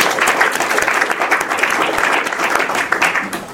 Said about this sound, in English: Give Bruce a big round of applause.